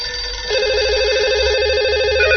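A steady electronic ringing tone of an outgoing telephone call, like the line ringing on the other end, starts after a brief moment and pulses continuously with a warbling trill, loud with no talking.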